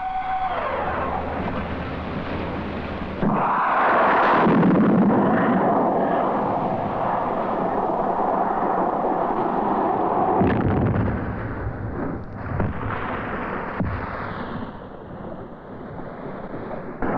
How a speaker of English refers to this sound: Installed on fast patrol boats, Exocet is a type of missile which puts another query against the future of big ships.